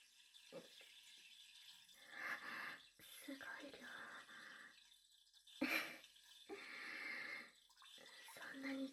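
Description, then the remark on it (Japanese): A urine stream, released after being held in a long time, splashing in uneven bursts, a hissing spatter that starts and stops several times, with faint breathy whispering in places. “たくさん我慢してたから一度出たら止められない。”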